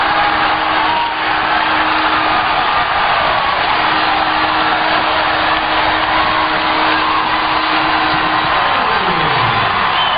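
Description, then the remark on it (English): A huge baseball stadium crowd roars and cheers without letup after Turner's walk-off home run to right center field, a dense, loud wall of sound, with a faint steady tone underneath that slides downward near the end. No one speaks. “This is the crowd.”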